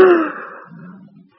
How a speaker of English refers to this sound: How heavily he's breathing. His voice will soon fail.